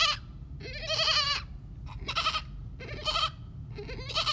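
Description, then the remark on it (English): A person imitates a goat, giving four loud, wavering bleats in quick succession, each about half a second long, over a low steady background rumble. “They don't just all turn their heads around to face me, who is making a goat noise”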